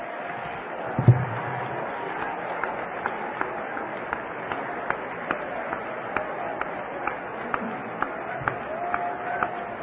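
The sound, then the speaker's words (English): A church audience claps together in praise of Jesus in a steady, even rhythm, roughly two sharp claps per second, over a continuous murmur of voices and crowd noise. “Clap. Thank Him for it.”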